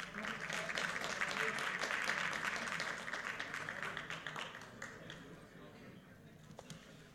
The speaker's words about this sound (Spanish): Fuerte los aplausos.